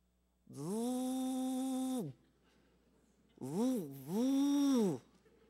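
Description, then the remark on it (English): A voice imitates a Vespa scooter engine with a loud, buzzing drone: one long steady note, then two shorter revving bursts that dip and rise in pitch. “Listen to that purr. That's a bad bike you got there, buddy. Vespa.”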